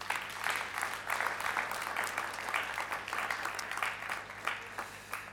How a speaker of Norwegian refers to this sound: De må få en applaus, synes jeg.